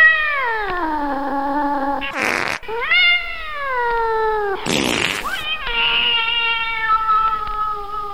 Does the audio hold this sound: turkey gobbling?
no